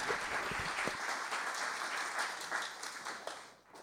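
A crowd applauds steadily, with many hands clapping in a dense, continuous wash of sound that holds at a fairly loud level before tapering off at the end.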